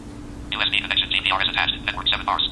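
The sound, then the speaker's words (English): A cheesy MIDI ringtone plays from a phone, a quick, bright electronic melody of rapid beeping notes, fairly loud, over a faint steady hum. “That was kind of a cheesy MIDI.”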